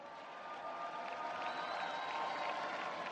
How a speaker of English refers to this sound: Wesley Clark has taken the microphone now. He's getting a big, rousing reception from the crowd in the convention hall.